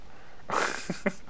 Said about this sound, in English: Yawn.